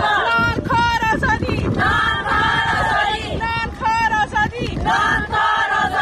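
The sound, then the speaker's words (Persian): A crowd of Afghan women protesters chants loudly in unison at a protest march in Islamabad, Pakistan, held on a Friday to demand the release of fellow activists. Their high-pitched voices rise in repeated rhythmic shouts over steady outdoor wind and rumble, with brief dips between phrases. “فریاد زنان افغان تا آسمان، فریاد زنان افغان تا آسمان، زنان معترض راهپیمایی اعتراضی اعضای ائتلاف مستقل جنبش‌های اعتراضی زنان افغانستان در اسلام آباد پایتخت پاکستان برای آزادی همقطارانشان.”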